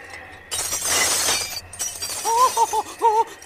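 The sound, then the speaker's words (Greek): A crystal planter shatters as wind blowing into the room knocks things over, in a loud, bright crash of breaking glass lasting about a second. A few shorter, wavering ringing tones follow, rising and falling. “Πάει και η κρυστάλλινη ζαρδινιέρα.”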